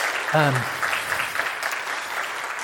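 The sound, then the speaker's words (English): An audience applauds together in a steady, dense wash of clapping, with a brief voice calling out near the start, at a church service honoring a retiring minister. “Yeah, round of applause for”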